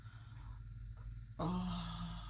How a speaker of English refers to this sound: This dog will fucking kill me.